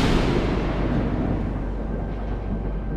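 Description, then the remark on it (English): A thunder crash effect: a loud, deep, continuous rumble with a broad roar that holds steady for the whole clip, never fading. No voices are heard. “Cue the thunder crash.”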